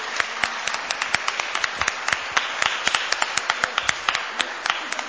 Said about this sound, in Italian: Si sono molto preparati e quindi meritano veramente che noi li si applauda come per il loro lavoro. Grazie.